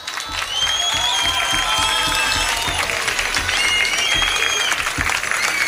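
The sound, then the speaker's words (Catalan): An audience breaks into steady, sustained applause, a dense wash of many hands clapping at full volume, with a few whistles and cheers rising above it throughout, at the inaugural event of the Fira d'Indians fair. “Un aplaudiment per elles.”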